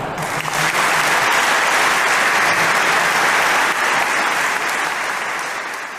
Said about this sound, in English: After extended lengthy applause, the Bishop of the Diocese of La Crosse, Bishop William P. Callahan, speaks.